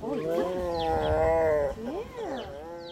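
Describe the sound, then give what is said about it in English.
A grumpy female tiger at a big cat refuge growls in one long, rumbling vocalization that rises and falls in pitch, then continues in lower grumbles with no talking. “We leave the grumpy tiger to her nap in search of another artist.”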